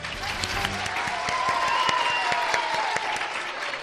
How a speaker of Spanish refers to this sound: Estamos con los alumnos y alumnas de tres colegios de Guadalajara. El Colegio Santa Ana, ¡fuerte aplauso!